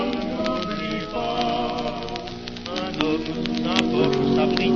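Steady rain streams down onto a hard surface, a dense continuous patter with sharper individual drops, mixed with sustained tonal music underneath at a fairly constant level.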